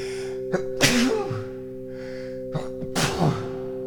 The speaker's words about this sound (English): And this is where I sneeze. Wait for it. Wait for it.